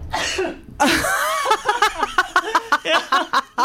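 A loud, close sneeze bursts out after a brief breathy intake, followed by a string of short, rhythmic laughing or chuckling bursts.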